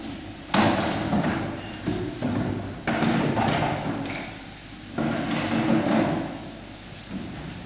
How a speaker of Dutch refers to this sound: Als dat alleen onze broeder is, dan schuiven we die stoel bij.